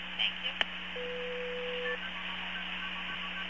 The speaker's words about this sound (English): Now, you hear that? Yeah, those are MF tones, and... That was the old AT&T system.